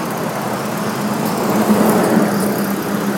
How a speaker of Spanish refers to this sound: Bueno, acá está, justo estamos en la puerta de la empresa, entran, salen autos, esto es un desconche.